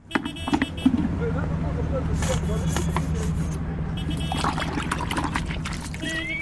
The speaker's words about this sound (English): squeezes dishwashing liquid into a bucket of drain water and uses it to clean a taxi.